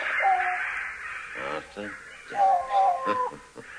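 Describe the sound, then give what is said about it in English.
A large old bird caws, a few harsh, hoarse calls in quick succession, loud and raspy against a faint background hiss. “We call him the Wise Old Bird. Ah. And this is him, is it?”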